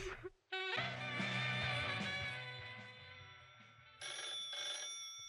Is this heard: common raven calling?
no